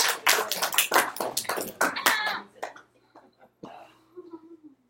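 A short burst of applause, several hands clapping quickly and loudly for about two seconds, then thinning out into quiet with a few faint voice sounds.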